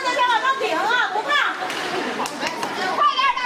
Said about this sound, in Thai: เมื่อมีกีฬาฮอกกี้น้ำแข็งสิ่งที่ขาดไม่ได้เลยก็คือเสียงเชียร์โวกเวกของผู้ปกครองนะครับ